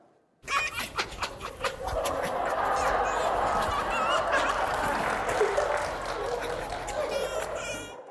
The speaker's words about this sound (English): Well, guess what? We have video of foxes giggling. Look at this.